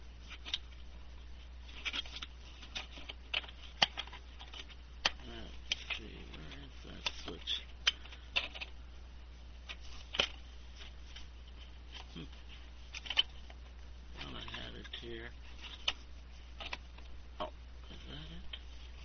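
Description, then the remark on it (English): Irregular clicks and rattles as a Westminster chime clock is handled on a lap and the switch on its back is flipped, with sharp switch-like snaps scattered throughout, over a steady low hum and occasional murmured voice. “Trying to hold the clock on my lap at the same time here.”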